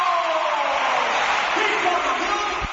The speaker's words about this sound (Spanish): El héroe del partido, Luis Fariña, movido por el estadio de Riazor, abandona el rectángulo de juego para que entre Juan Carlos. Esta es la ovación que se lleva el chaval.